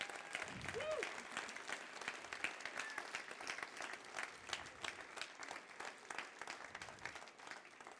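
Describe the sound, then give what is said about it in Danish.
A crowd applauds steadily for bakers and confectioners in Denmark who have passed their journeyman's exam, many hands clapping in a dense, continuous patter at moderate volume, with a few faint voices mixed in near the start. “Det skal de have en klap for.”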